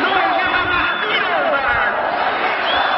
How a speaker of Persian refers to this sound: این صدایی که میاد به نظر باید از ورزشگاه باشه.